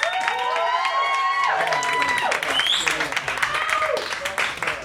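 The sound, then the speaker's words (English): A crowd claps and cheers loudly and steadily for a few seconds for a comedian, with whoops and shouted voices rising over the dense wash of clapping, as the audience picks a favorite competitor. “Pick a favorite with your applause,”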